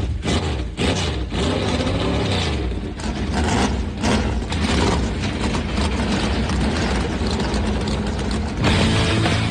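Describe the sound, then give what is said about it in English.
The engines of 39 race cars roar to life together at the start of the Bass Pro Shops Night Race, a rumbling low drone with rattling mechanical clatter, sustained and steady for several seconds with a brief dip before swelling again. “The command has been given. Let's crank him up.”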